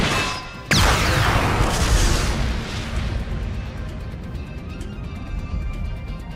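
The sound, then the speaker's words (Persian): A single heavy weapon blast erupts suddenly and loudly, with a sharp crack followed by a long rumbling decay and lingering debris-like noise. “اگه همینجوری بیپروا شلیک کنه دیگه خونی براش باقی نمیمونه.”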